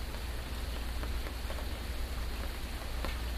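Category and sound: nature, rain falling outdoors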